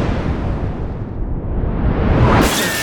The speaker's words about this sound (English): But she came back, now I feel like the 4th of July. Fireworks.